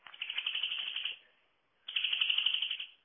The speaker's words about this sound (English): So, here we go, back with the greenfinch. Let's have another blast of this.